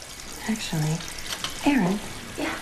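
Dishes being washed in a sink, with a steady hiss of running water throughout and brief hums of a voice rising over it at moderate loudness.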